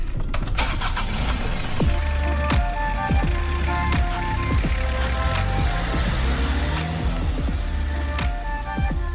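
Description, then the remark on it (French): A car drives along with a steady low engine rumble, punctuated by frequent soft thumps and knocks from the road. No one speaks. “Allez, en voiture, c'est bon.”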